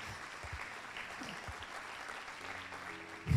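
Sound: audience applauding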